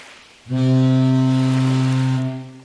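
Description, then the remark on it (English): A single long, deep horn blast from a cruising ship, with a steady low drone and rich harmonics, starting abruptly, holding for about two seconds, then fading out. “Zappity zip, a cruising ship.”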